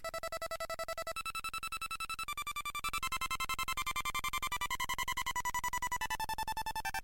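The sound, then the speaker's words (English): Harsh one-bit electronic music by Tristan, from a programmed microchip connected to a small speaker, buzzes with thin square-wave tones stepping between pitches over a steady rapid pulse, shrill and beeping like a ringtone or alarm, with no voices. “And the way Tristan sets this up is that he'll program a microchip and then connects it to a speaker and we'll have all these different one bit sounds going on.”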